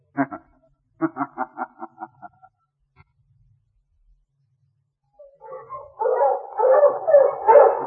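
A dog gives a couple of barks, then a quick run of about eight sharp, evenly spaced yaps. After a pause, a louder, dense wash of excited barking and yelping swells up from a sled dog team driven along a trail by Sergeant Preston of the Northwest Mounted Police.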